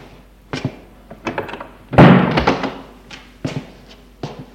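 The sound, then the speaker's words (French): A girl closes her bedroom door: it swings shut with a solid thud, surrounded by several sharp clicks and knocks from the latch and handle. No one speaks. “» Il entre, elle ferme la porte.”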